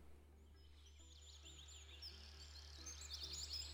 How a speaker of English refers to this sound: The sun wakes us up as birds chirp. This little oasis of water and trees has wildlife on it, and we've become part of their morning routine.